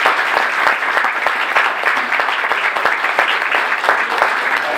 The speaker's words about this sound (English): Before we get into the details, we want to mention that today's event was catered by the Shelter House Culinary Starts Program, so let's give them a nice round of applause.